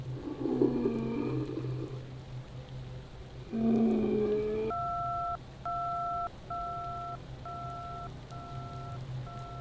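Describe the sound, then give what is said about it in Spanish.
Over a low electrical hum, two short warbling bursts give way to a steady series of evenly spaced beeps, the repeating line tone heard after a telephone call is cut off. “La niña quemada, del otro lado de la línea, al mismo tiempo que colgaban el teléfono.”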